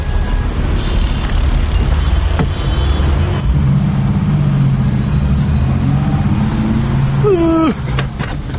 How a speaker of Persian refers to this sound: ای بابا این ترافیک هم تیر اصفن دیگه داره ما رو دیوونه میکنه به خدا.